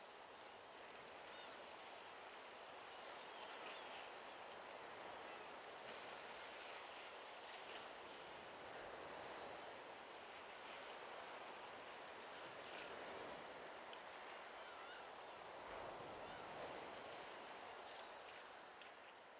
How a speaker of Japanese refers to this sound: どうかしら。たまにはこうして穏やかな海の音を聞くのもいいでしょう。